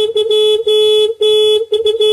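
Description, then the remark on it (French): A loud car horn blares in long, sustained blasts, briefly cutting out twice before honking again, piercing with no voices present, in a morning radio advertisement for an insurance company. “On nous balance un klaxon à fond les gros lots dès le matin.”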